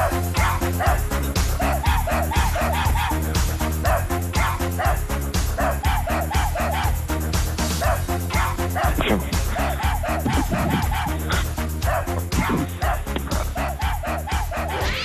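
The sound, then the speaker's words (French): Dogs bark and yip in rhythm over a loud, bouncy music track, their barks falling into a repeating pattern like a sung melody, with no talking; the dogs are singing the song of the radio station Nostalgie. “Vous retrouvez la chanson de Nostalgie chantée par nos chiens ce matin.”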